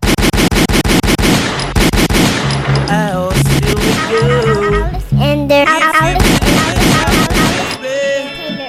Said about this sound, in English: My fault, I couldn't find a gunshot. Thought something happened to it. That always sucks when the gunshot not loud enough.